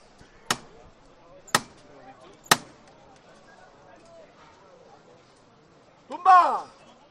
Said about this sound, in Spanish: Y ahora parece que hay otro pequeño relevo de costaleros, van a llamar otra vez al martillo, escuchamos.